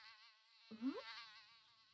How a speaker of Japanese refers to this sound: ありゃ、ハエが入ってきちゃったね。でも大丈夫だよ。これ？この家では虫は漏れなく、レーザーで消し済みに変えちゃうから安心してね。